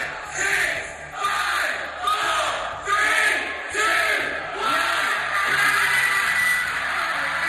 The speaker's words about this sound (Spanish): Las discotecas y los clubes de Londres, 16 meses cerrados, tenían su grito de freedom preparado a medianoche.